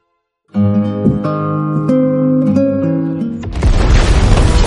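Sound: explosion boom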